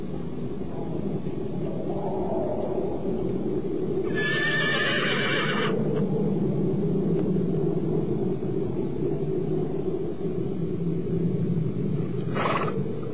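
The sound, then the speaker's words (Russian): A horse neighs loudly, its whinny rising sharply around four seconds in, with a shorter call near the end over a steady low rumble of background noise. No one speaks. “Коня! Коня!”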